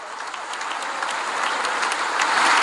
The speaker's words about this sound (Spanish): En tanto, a última hora de la tarde del miércoles, hora local en Washington, D.C., el dignatario ucraniano intervino ante un congreso expectante que le recibió con una larga ovación.